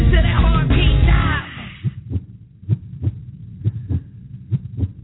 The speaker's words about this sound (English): Listen to that heartbeat, see the finish line is there.